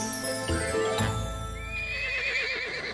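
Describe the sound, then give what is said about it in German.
A horse whinnies loudly in a long, quavering neigh that rises and then trembles down in pitch, heard alone without any talking. “Wenn der Amtsschimmel wiehert, dann bleibt der gesunde Menschenverstand gerne mal auf der Strecke.”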